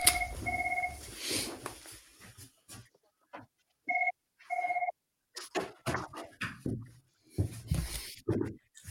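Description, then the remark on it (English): A phone rings with short, repeated electronic tone bursts, a two-note trill that stops and starts, followed by rustling and handling noises. “Sorry, I just got to unplug my phone.”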